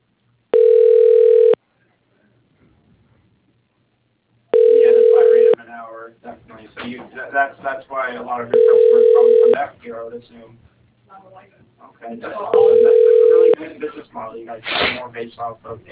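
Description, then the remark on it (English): A call being put through to voicemail: a steady, mid-pitched telephone tone sounds four times in one-second bursts about every four seconds, with people talking in the gaps between. “What I could do is put you through to his voicemail.”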